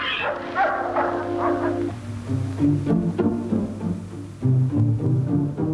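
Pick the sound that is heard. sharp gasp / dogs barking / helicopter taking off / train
dogs barking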